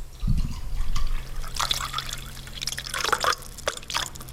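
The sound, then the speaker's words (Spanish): Water sloshes and pours from a half-full bottle of water, with irregular gurgles and small splashes over a few seconds and a faint low hum behind it. “a beber un poco de agua? No, no. Pero estaría bien hacerlo sonar para que la gente se dé una idea.”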